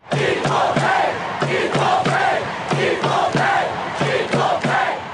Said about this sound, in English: After that match, FIFA President Gianni Infantino took to the stage, and the crowd had something to say to him.